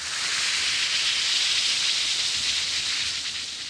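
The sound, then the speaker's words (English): A steady fizzing hiss of an Alka-Seltzer tablet dissolving in a glass of water, bright and continuous for a few seconds with no voices. “Yes, that's the mighty welcome sound of a glass of sparkling Alka-Seltzer, about to bring somebody prompt and effective relief.”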